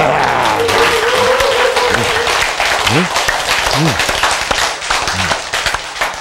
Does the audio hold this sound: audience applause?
yes